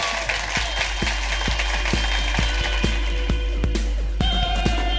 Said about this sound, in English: Will you please give a massive round of applause for amazing Suze Kempner?